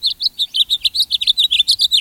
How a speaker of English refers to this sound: Even now in February, when the air outside is brittle and painful, warmth rides the rhythm of an American robin. No, spring isn't just around the corner, at least not in the north. But even in winter, some birds greet the sunrise with song.